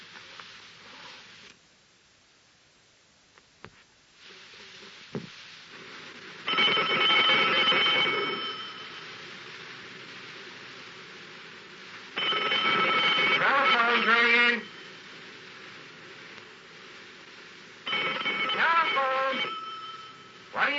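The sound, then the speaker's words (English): A telephone bell rings in three separate bursts, each lasting about two seconds, with short pauses of quiet between them. The ringing is loud, and no one speaks. “Every time anything like this comes up, it's always me. I've got to answer the phone.”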